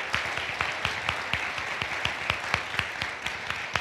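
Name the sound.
audience applause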